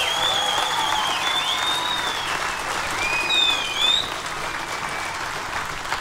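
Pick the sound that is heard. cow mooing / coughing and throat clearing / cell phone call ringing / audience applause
audience applause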